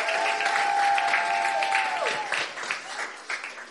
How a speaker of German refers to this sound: Yeah, Applaus für Julia, Dankeschön.